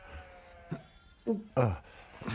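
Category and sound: animal, sheep bleating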